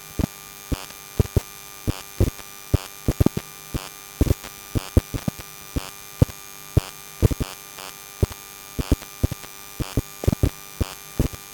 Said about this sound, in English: When you take an EM pickup coil and put it on top of your Sky Q box, you might get a noise like this, which is rather rhythmical and cool.